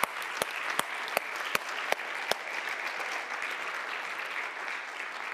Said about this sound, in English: There isn't a greater position on the face of the earth than somebody who is willing to teach the Word of God. Now applaud these people for what they're doing.